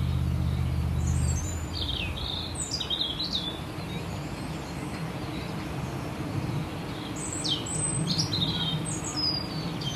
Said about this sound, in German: Also es ist oft gar nicht so einfach, das Rotkehlchen herauszuhören, vor allem wenn das totale Vogelkonzert ist irgendwann in der Früh. Es ist gar nicht so leicht.